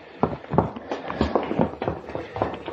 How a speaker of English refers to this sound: She left. I watched her clatter down the stairway.